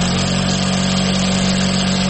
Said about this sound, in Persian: ماشین های خیاطی. کوچه کست فروشی به کوچه خیاطان مبدل شده.